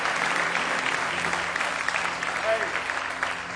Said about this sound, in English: Somebody say praise the Lord. Give him one more hand clap of praise in the house of the Lord.